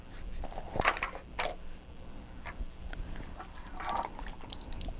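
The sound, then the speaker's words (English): A baby shakes a set of keys, giving a series of bright, irregular metallic jingles and clinks in uneven bursts, fairly soft, over a low background hum with no talking. “Shake your keys. Shake, shake, shake.”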